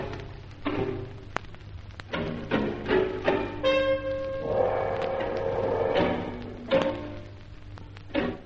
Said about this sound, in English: It seemed that whoever was trying to enter the flat was testing a number of keys. The tension mounted as some half dozen keys failed. Then, the lock turned.